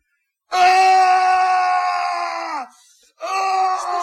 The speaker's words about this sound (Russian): Это кричал папа Эмиля.